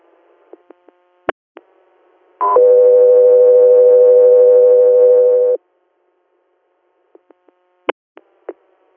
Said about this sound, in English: stand by for tones.